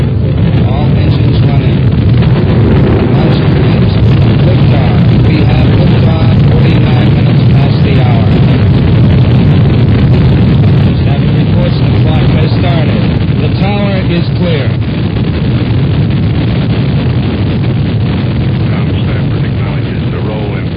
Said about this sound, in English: We have ignition sequence start. Engines on 5, 4, 3, 2.